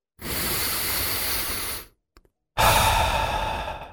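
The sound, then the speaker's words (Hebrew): A long, deep breath drawn in, a short pause with a couple of faint clicks, then a breathy exhale. Both are broad, airy and loud, with no talking. “יכולנו להכניס פה עוד פרסומת, אבל כשיש לתדירן מזגן שמתהר את האוויר, אנחנו מעדיפים פשוט לנשום.”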